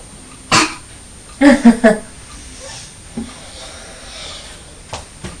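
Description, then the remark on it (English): A mother gives a sharp sneeze near the start, followed a moment later by a quick cluster of throaty, voiced snorts, then faint rustling and a couple of soft clicks. “Oh dear, that's made Mummy sneeze now.”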